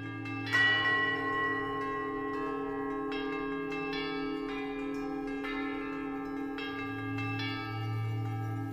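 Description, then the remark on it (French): Cathedral bells, rung as a visitor's own created chime, ring out in a sustained, resonant peal, with fresh strikes landing every second or so over a lingering hum of overlapping tones. No one speaks. “Ici même, la cathédrale vous offre de pouvoir créer votre propre tintement de cloche.”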